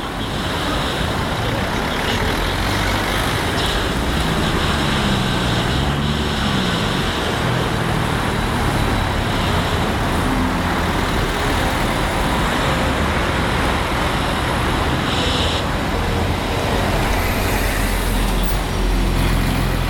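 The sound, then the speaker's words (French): Steady, dense road traffic at an intersection with a red light, with engines idling, rumbling and pulling away as cars stop and start, and a brief hiss like air brakes from a large vehicle. “Et c'est intéressant de le capter à un feu rouge parce que les voitures s'arrêtent et repartent et ça crée une impression de décalage.”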